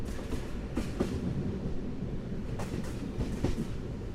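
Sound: train rolling on rails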